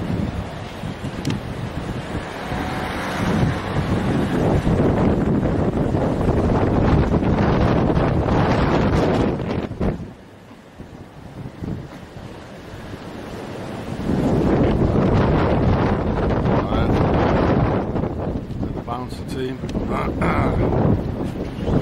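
Strong wind buffets the microphone with loud, rumbling gusts that roar almost continuously, easing briefly partway through before surging back just as hard, along with a wash like surf.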